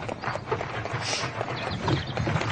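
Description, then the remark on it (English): Horse hooves clip-clop rapidly and steadily at a fast pace over a dense rushing background noise, with no talking, as a horse is ridden at speed through the remains of an old forest in England. “With the wind in your face and a horse straining at the bit?”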